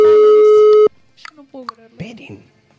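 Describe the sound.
A loud, steady electronic interference tone buzzes on a telephone line during a call to La Plata for about a second, then cuts off abruptly, leaving faint, muffled voices talking over the connection.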